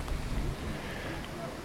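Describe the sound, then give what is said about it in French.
Light wind with a soft rain on a rooftop, outdoors at the security perimeter near a student residence where onlookers wait for a building demolition, heard as a steady, even hiss and low rumble that continues without a break from start to finish, moderately quiet. “Il y a un léger vent, une pluie.”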